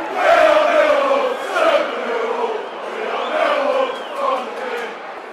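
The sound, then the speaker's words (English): A football stadium crowd at half-time of a Millwall versus Norwich match chants and cheers in a loud, sustained roar, with the massed voices swelling and dipping in waves throughout. No single voice stands out. “Let's pull the crowd into it.”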